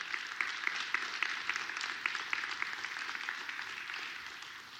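An audience applauds steadily for several seconds, a dense crackle of many hands clapping at once with no voices over it, fading slightly toward the end.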